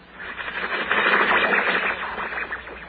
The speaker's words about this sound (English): That's it. Well, I get that on my car radio. Static. Yes, but that's from the stars. Oh, you mean radio interference. That's right.